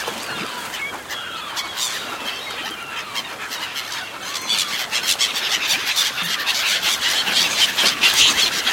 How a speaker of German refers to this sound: Haut ab! Ja, da kommt nichts von unseren Krabben. Ein ganzer Schwarm Möwen hat das auf unseren Fang abgesehen. Ich muss sie irgendwie vertreiben.